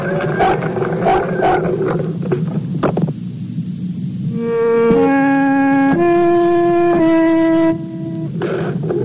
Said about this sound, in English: Do you hear the frog?